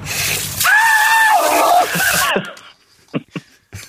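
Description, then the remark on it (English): A loud, high-pitched scream from a person in a video clip rises and wavers for about two seconds over noisy background, then breaks off, followed by a few short, quieter voice sounds. “basically judging them on how they scream.”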